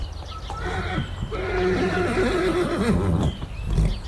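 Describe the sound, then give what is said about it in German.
One of ten white horses around a castle neighs in one long, wavering whinny that rises and falls for a couple of seconds, fairly loud, with a brief snort at the end and no talking. “Rund um das Schloss hat es Pferd. 10 weisse Pferd.”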